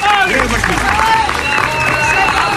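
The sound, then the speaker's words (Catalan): A crowd breaks into steady, loud applause as a young man who was selling roses nearby is invited onto the stage, many hands clapping at once in a dense, continuous patter with some cheering and voices mixed in. “un aplaudiment”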